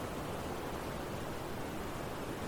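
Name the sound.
roaring river water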